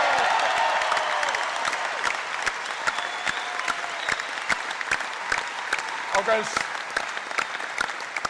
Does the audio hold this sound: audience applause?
yes